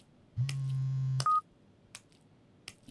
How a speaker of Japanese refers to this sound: どうしたんですか？電話？姉さんからですか？